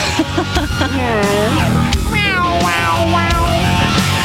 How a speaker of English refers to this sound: Wow, meow, meow, meow. Sounds kind of like a cat.